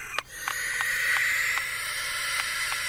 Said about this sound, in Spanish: ¿Qué es el sonido de la lechuza? No sé, pero mira vos. Mira. Parece como enojada, te diría. Está re caliente la lechuza.